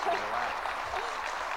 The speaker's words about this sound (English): That applause is for you.